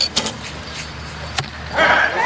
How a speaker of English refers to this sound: You can, if you listen carefully, clearly hear that three stages of the flight, the twang of the bow, and then the swish through the air, and then the thud of the arrow hitting the target.